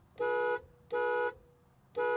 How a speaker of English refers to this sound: Hear how the horn sounds on the 2020 Acura NSX.